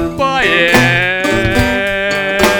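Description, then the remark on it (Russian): A loud housefly buzzing at a window drones continuously for a few seconds, its pitch swooping and wavering as it goes, with no talking over it. “Сдуру частенько жужжит у окна.”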